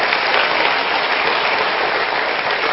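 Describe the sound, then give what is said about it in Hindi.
An audience at a talk claps loudly and steadily after the speaker asks for loud applause, a dense, continuous wash of many hands that holds an even level for a few seconds with no voices heard. “जोर से तालियां बजाएंगे.”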